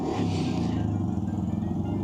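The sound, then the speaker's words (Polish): A neighbour's motorcycle engine rumbles steadily outside, a low droning idle with a slight rise early on, with no talking over it. “Ten odgłos, który być może słychać, to motocykl sąsiada, jak żeby ktoś był ciekawy za drzwiami.”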